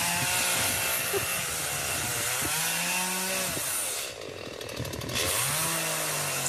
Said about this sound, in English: With a chainsaw, out working hard, gloves on, cleaning up the debris.